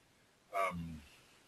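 A single frog croak, a brief raspy call that drops into a lower, throaty tail, heard alone against a faint background hush.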